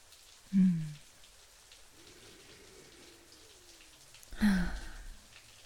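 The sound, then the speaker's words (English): Hot shower water patters steadily onto the tiles of a glass-walled shower as a soft, even hiss of droplets, broken twice by a brief low thump, one early on and another near the end. “Just listening to all the sounds of the droplets, hitting the tiles all around us, and seeing the glass get clouded with steam already.”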